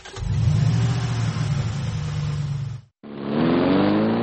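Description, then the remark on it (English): A large car engine roars loudly with a deep rumble, cuts off briefly, then revs up again with a rising whine, no voices present. “Maybe some do, but I think most people just think they look cool driving a huge truck.”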